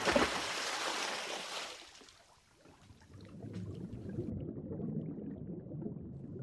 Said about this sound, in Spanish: Ya estamos sumergidos. Y estamos escuchando todos los sonidos que hay bajo el mar.